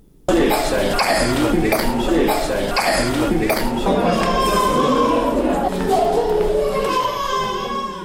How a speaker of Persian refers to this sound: صدای ناله و فریاد کودکان بیمار در شفاخانه اندرا گاندی است که به بیماری سینه و بغل و مجرای تنفسی مبتلا شدند.